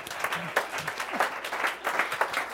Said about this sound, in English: Yes, it's okay to clap, everybody. Go ahead.